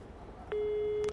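A telephone ringback tone while calling a woman and waiting for her to answer: one steady, mid-pitched electronic burst lasting about half a second, heard alone over faint line hiss, with no talking.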